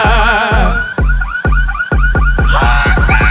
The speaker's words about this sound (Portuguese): E os alarmes das caminhonetes já começaram a disparar.